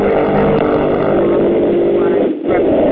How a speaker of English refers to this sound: Someone's in an extremely noisy environment with a motorcycle in the background, perhaps? If you could please mute your phones if you're not presently speaking.